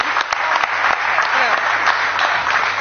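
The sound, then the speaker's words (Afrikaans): An audience applauds long-distance sea swimmers steadily, a dense wash of many hands clapping at a fairly loud, even level with faint voices mixed underneath. “Kom ons geef hulle aan een klap.”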